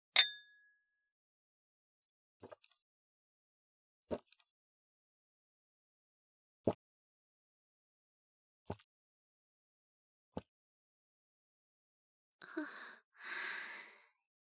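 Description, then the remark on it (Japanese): Glasses of beer clink together once in a bright, ringing toast at the start, followed by a few soft, sparse taps and a breathy sigh at the end. No one speaks. “それでは、乾杯しましょうか。”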